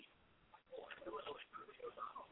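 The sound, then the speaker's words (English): A phone call connects over the line: thin, band-limited telephone audio with a brief click and a dropout, then muffled, indistinct voices crackling through the connection. “I hear that phone going in now.”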